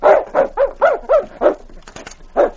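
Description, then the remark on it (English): A dog named King whines and barks in a quick string of about seven loud, rising-and-falling cries, pausing briefly before one last yelp. No one speaks. “Now, what's the matter, King? You seem upset about something. Here, you don't want out.”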